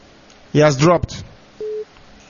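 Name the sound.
busy tone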